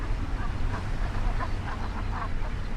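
A flock of Brent geese on the edge of a salt marsh murmurs and calls in a steady, overlapping chatter, with a low rumbling wind or water noise underneath.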